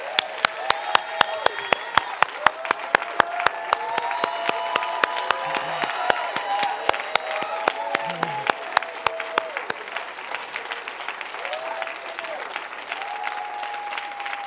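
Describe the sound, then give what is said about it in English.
A large church audience applauds steadily for about fifteen seconds on Father's Day, giving a hand clap in honour of God: dense clapping with a few louder sharp claps, mixed with scattered cheers and voices calling out, fading slightly toward the end. “So can we just give him a hand clap?”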